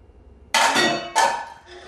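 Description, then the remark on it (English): A metal pan falls from a wooden rack above a kitchen island at 3:28 a.m., crashing down with a loud, ringing clang, then hitting again about half a second later and rattling into a fainter metallic clatter as it settles. “A pan falls from a wooden rack above the kitchen island.”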